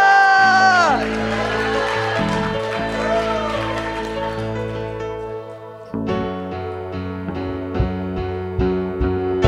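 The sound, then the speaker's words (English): An audience shouts and cheers over sustained keyboard chords, with rising whoops early on, before a band kicks in with steady rhythmic hits while the crowd noise continues underneath. “Let's get one of those shouts. Hallelujah!”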